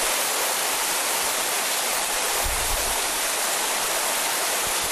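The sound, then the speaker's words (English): Heavy rain pours down in a steady, dense roar with no voices during a windy thunderstorm, and a brief low gust of wind rumbles through about halfway. “But it's a little bit windy as well. So you can't feel the rain, but you can feel a little bit of spray.”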